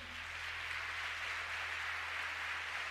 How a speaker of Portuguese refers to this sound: Quer aplaudir? Aplauda ao Senhor que é santo.